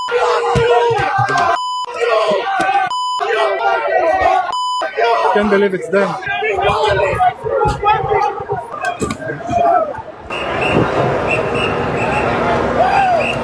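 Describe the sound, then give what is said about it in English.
A crowd of fans yells and screams continuously as Wembanyama gets out of the Spurs team bus, punctuated early by three short, high electronic beeps, with a voice speaking amid the din before it swells into a dense, hissing roar. “This is what it sounded like when Wembanyama was getting out of the bus.”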